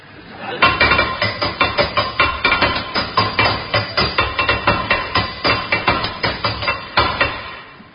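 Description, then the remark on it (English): A hammer bangs rapidly and repeatedly on a metal tap that won't turn off, dozens of sharp, loud, ringing clanks in a steady, frantic rhythm, with no voices. “I can't turn this tap off, Henry. Give me the hammer.”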